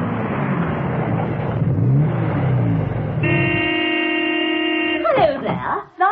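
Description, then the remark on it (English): A car engine rumbles and revs as it pulls up with Steed arriving, then a single long, steady horn blast sounds for about two seconds, followed by a few brief squeaky chirps. “Steed, unaware of this sudden decision on the part of his old friend, arrived in a chair.”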